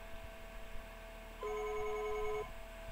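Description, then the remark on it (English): The speaker's own phone, called as a test, rings once: a steady, medium-pitched electronic tone lasting about a second over a low background hum, with no one speaking. “Let's see if you can hear my phone ringing.”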